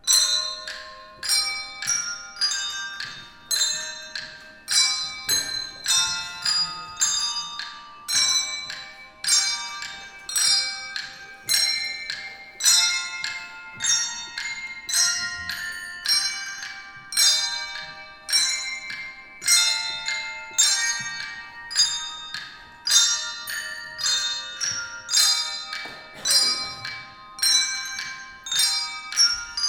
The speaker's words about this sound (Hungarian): Végezetül pedig hallgassunk meg egy részletet a vizsai csengettyűs gyerekek előadásából.